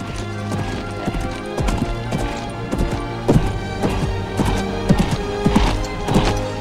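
A sleek black horse, Widowmaker, gallops with a rider over open fields, its hooves pounding in a quick, irregular drumming rhythm that stays fairly loud over a steady humming tonal background.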